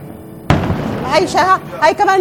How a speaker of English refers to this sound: There was another explosion. That one hit some place moments ago and exploded. We do not know where that was.